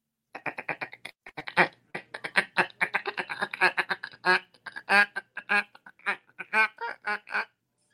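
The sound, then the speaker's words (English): A mallard hen quacking in a long, rapid series of loud, nasal quacks, tumbling along in an uneven rhythm for several seconds with no talking. “Mallard hen.”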